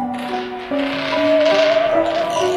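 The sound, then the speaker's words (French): A marble rolls steadily across the sloping floor of a house, giving a continuous rumble with faint ringing tones that shift slightly in pitch as it travels. No one speaks. “La bille roule.”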